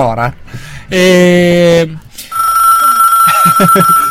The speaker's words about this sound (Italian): Telefono. Chi è? Tuo? È tuo? Pronto?